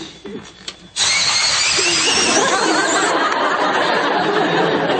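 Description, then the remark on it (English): An electric pencil sharpener kicks on after a second of quiet chatter and grinds steadily, a loud, buzzing whir that holds without letup to the end. “The pencil sharpener is a little tricky.”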